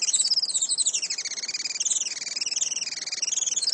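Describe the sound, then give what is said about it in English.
Rapid, high-pitched chattering calls of a Juan Fernandez firecrown hummingbird, a species found only on Robinson Crusoe Island, repeat in a steady, buzzy stream, continuous, with no voices present. “Today, conservationists with Oikonos ecosystem knowledge are working to restore the island's native forests and to ensure a bright future for the Juan Fernandez firecrown.”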